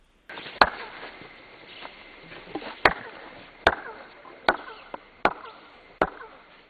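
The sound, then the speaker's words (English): Six sharp, loud impacts at uneven intervals as someone walks up the stairs of a Mayan pyramid in Tikal, Guatemala, each trailed by a brief ringing, chirp-like echo off the stone stairs, over a low background hiss with no talking. “Now, that's called chirping, as you walk up the stairs.”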